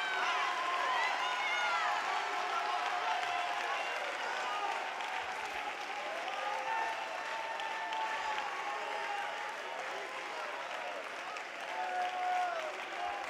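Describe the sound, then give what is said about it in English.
A large audience at a worship service stands, claps and shouts together, a dense, steady wash of applause mixed with many overlapping raised voices and whoops, loud and sustained throughout without pause. “Why don't you stand to your feet and clap your hands and shout again like you want something to happen?”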